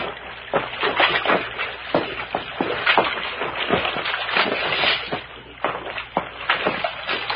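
Footsteps slosh and splash over rocks through shallow creek water in an uneven, stumbling rhythm, fairly loud, with no voices.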